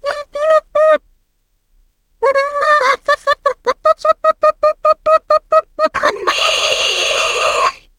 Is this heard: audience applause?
no